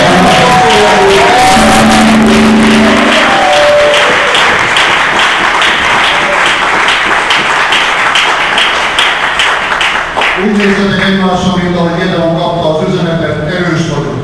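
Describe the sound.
An audience at a church service applauding one another loudly, a dense, sustained wash of many hands clapping for about ten seconds, with a voice heard over it at the start and again as the clapping fades.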